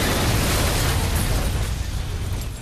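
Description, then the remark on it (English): A BMW car explodes on a drive in the distance: a loud, deep roaring blast with heavy low rumble and crackling noise, sustained for a couple of seconds and fading only slightly, with no voices. “The car explodes. Boom!”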